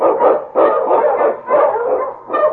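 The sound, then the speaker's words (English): A husky barks and bays in a quick run of loud, drawn-out yelps, about five bursts back to back with barely a pause between them and no voices, in the opening of the radio drama The Challenge of the Yukon. “On, you husky!”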